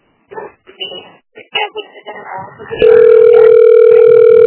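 A recorded voice answers for the Prado health unit and asks the caller to wait, then a loud, steady telephone tone sets in and holds unbroken at one pitch, a continuous electronic hum of the kind heard while waiting on hold.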